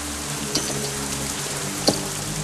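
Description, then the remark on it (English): Heavy rain pours down in a steady, dense hiss, with two sharper drips or splashes standing out briefly above the constant roar. No voices are heard. “Squinting through the downpour, he stands and steps onto the porch.”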